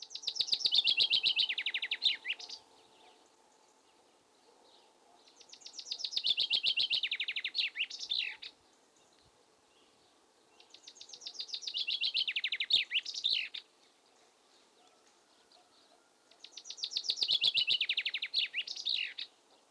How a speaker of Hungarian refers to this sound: Most hallgassuk meg az erdei pinty énekét normál lejátszásban, majd egy ének strófáját 8-szoros lassításban is.